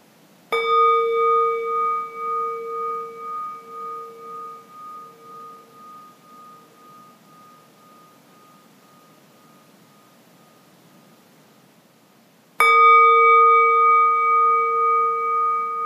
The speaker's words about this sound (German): Und so kannst du einen Moment ruhen, bis ich den Gong schlage.